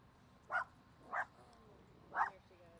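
A female farm dog named Jam barks three times at uneven intervals, each bark short and sharp, over quiet background noise.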